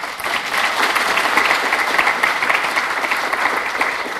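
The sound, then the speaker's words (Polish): Sustained audience applause thanking the reception and registration staff, a dense, even wash of many hands clapping at steady loudness for about four seconds, with no voices standing out. “Oklaski proszę.”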